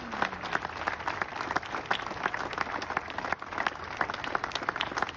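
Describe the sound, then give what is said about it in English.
An audience applauds after a speech, many hands clapping in a dense, continuous patter that stays at an even level throughout, without any voices. “We got another round of applause for our greatest convict.”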